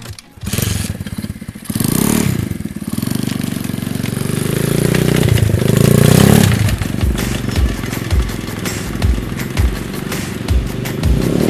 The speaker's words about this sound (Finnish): Tuolla seisoo joku liikkuvan moottoripyörän päällä, ja se on siis kuski itse.